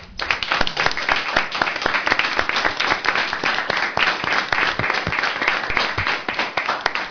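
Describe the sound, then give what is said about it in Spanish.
Steady applause from a group, with dense overlapping claps that hold at an even, fairly loud level for about seven seconds, with no voices on top. The applause is for each panelist of the radio show Qué Locura de Radio at the end of their turn, for their effort on the project. “Al terminar su intervención, cada tertuliano de Qué Locura de Radio, démosle un aplauso por el esfuerzo que está haciendo por sacar adelante este proyecto.”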